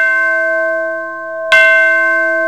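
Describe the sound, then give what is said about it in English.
A school bell rings out loud, one clear ringing strike followed by a second at about the midpoint, each leaving a long, sustained metallic tone. No one speaks. “Oh, the bell's ringing.”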